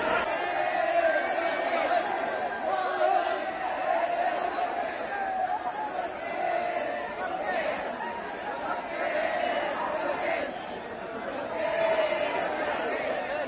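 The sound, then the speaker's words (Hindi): A large, excited crowd of sports fans of all ages outside Chennai Airport, India, welcoming 18-year-old world chess champion D Gukesh, fills the air with dense, overlapping chatter and occasional raised shouts, holding a steady, loud roar of voices throughout without any single clear speaker. “दुनिया के सबसे कम उम्र के विश्व चैंपियन 18 साल के डी गुकेश के स्वागत में चेन्नई एयरपोर्ट के बाहर खेल प्रेमियों का हुजूम उमड़ पड़ा।”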